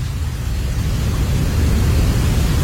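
White noise played for sleep: a steady, unbroken hiss fills the whole stretch, loud and even, with a deeper rumbling weight at the bottom and no voices over it.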